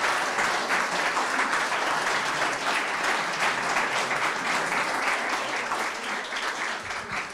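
An audience at a talk claps steadily for the guest speaker, a dense, sustained wash of many hands beating at once, loud and even from start to finish with no voices rising above it.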